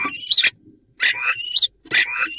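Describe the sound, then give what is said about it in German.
A common starling sings three bursts of bright, whistled, electronic-sounding phrases, each a buzzy sweep with rising and falling notes, separated by short pauses. “Ach, Star. So klingt ein Star.”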